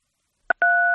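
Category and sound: signal or alarm, telephone keypad tone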